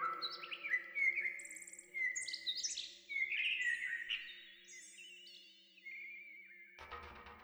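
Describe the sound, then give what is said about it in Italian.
A small bird sings a lively, continuous run of high chirps and warbled phrases over a faint steady hum, ending with a brief burst of noise. “per capire l'uccellino che dai rami di un tiglio si sgolava a dirgli il suo destino”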